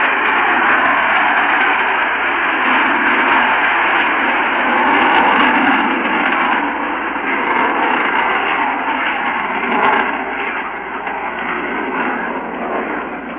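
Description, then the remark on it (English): A rocket launch roar as the rocket climbs into a clear sky: a loud, unbroken rushing rumble that holds steady for the whole stretch, thick and slightly muffled like a broadcast recording, with no voices over it. “a flame clearly seen, like a beaming light, like a searchlight, focused down at the Earth again as that thin, slim pencil goes slowly, slowly up into the clear sky, and now the sound grows louder and louder and swallows everything.”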